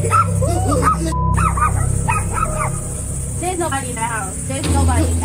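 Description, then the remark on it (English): Two puppies in a home yip and whimper in short, high-pitched bursts that rise and fall, over a steady low hum. The whining cries repeat through the whole stretch. “freaking out everyone and even seeming to upset their two puppies.”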